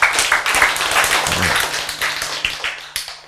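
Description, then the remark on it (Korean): An audience breaks into steady applause after a lecturer calls for it, many hands clapping in a dense, crackling wash that holds for a few seconds before thinning out. No one speaks over it. “그 정도 할머니는 돼야 될 거 아닙니까, 여러분? 박수.”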